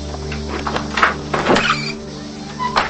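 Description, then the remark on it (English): A woman opens a door, heard as a few mechanical clunks and a scraping slide over a steady low hum, with a brief squeak near the end. “She puts the poker down and opens the door.”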